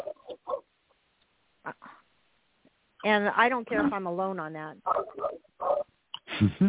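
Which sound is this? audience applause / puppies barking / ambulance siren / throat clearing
puppies barking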